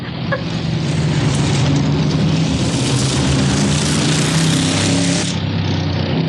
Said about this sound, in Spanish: Cierto. Viene un automóvil detrás de nosotros. Pero pudiera ser casual.